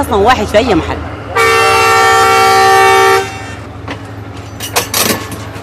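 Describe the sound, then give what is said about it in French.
A train horn blares once in a loud, steady blast lasting almost two seconds over a low rumbling background, with people's voices briefly heard just before it; the train runs the 500 km from Port Sudan to Atbara in Sudan. “Le train mettra près de 12 heures à parcourir les 500 km qui séparent Port-Soudan d'Atbara.”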